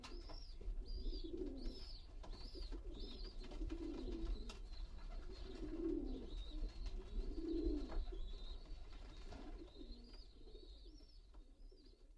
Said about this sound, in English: I'm about 80, and I know them all. I know each and every pigeon that's in the pigeon shed, and I can pick out if there's a stranger there on the roof.